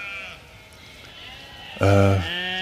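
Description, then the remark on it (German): Sheep bleating: a faint wavering bleat at the start, then a loud, harmonic-rich bleat near the end that trails off into another quieter call. “Die Schafe, ja.”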